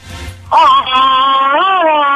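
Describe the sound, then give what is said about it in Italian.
A caller on the phone line imitates a Tarzan jungle yodel yell, a loud sustained wavering cry with a sharp onset that holds strongly for about two seconds, slightly distorted over the phone line. “Questa è Tarzan, un attimo.”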